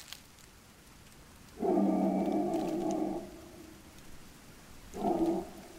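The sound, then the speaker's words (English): A man's long, wavering howl rises over a soft hissing background, fades, then returns as a shorter second howl. “It is now I hear the howls and look up to a black sky that has never seen stars.”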